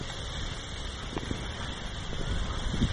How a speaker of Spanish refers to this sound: En nuestro episodio de hoy, El Árbol Mágico, nos transportaremos para disfrutar como si estuviésemos debajo de la sombra de un árbol frondoso. Escuchemos el sonido del viento, cómo juega entre sus hojas.